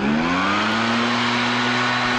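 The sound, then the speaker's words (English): A gas-powered leaf blower drones steadily, its engine tone climbing slightly as it revs, with a loud hiss of rushing air throughout. No one speaks. “Another state is considering a ban on gas-powered leaf blowers.”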